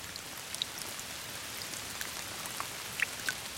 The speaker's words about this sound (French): Le dernier jour, il pleut. De grosses gouttes de pluie fouettées par le vent.